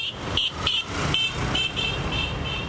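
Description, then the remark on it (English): Short, high-pitched horn beeps from motorcycles weaving between stalled cars in a São Paulo traffic jam sound repeatedly over a steady rumble of engines and traffic, with several quick toots in an irregular rhythm above the dense background noise. “Even in the tightest traffic jams, motorcycle riders will weave between the stalled cars, sometimes at top speed.”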